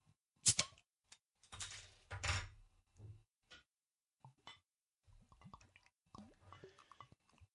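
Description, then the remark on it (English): Dark beer glugs and splashes into a Chimay glass in uneven bursts, with a bright fizzing hiss between pours, fairly loud. No one speaks. “That even sounds good pouring in that Chimay glass, man.”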